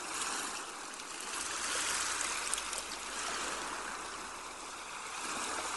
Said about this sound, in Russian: Все пространство вокруг вас наполняется шумом прибоя, шумом морской волны.